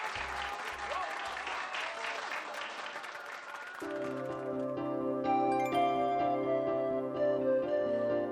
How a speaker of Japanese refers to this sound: 勝った勝った、引き分けだ。 越中側からも白山側からも歓声がどっと上がりました。